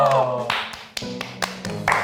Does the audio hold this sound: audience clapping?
yes